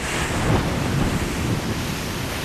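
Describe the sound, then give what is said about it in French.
Loud ocean surf rushes and breaks continuously on a beach where a boat struggles to approach through the waves, a dense roar of crashing water with gusty wind buffeting the microphone and no voices. “Il faut sécuriser le matériel technique dans des sacs imperméables, courir jusqu'au bateau avant l'arrivée de la vague.”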